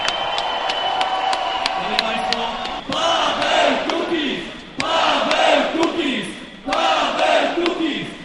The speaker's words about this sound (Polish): Wielkie, wielkie brawa! Brawa, Kukiz!